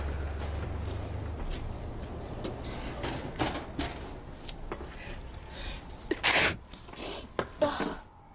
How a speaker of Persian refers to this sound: عافیت باشه. ممنون.